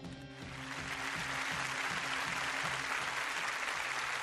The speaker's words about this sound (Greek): Έτσι. Βάρα τέτοιο. Χειροκροτήματα.